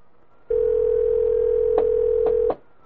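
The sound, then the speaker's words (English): A telephone line tone hums steadily for about two seconds while a call is being dialed and goes unanswered, broken by three quick clicks near the end, then it cuts off. No one speaks. “Well, it's got on a good call because they're not answering.”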